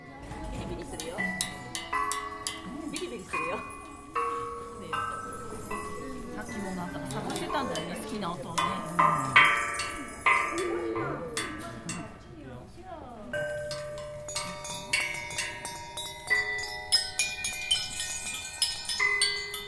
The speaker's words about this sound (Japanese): この金属音を響かせているのは音が出る彫刻シデロイホスです。転がしたり叩いたりすることでとても綺麗な音を奏でてくれます。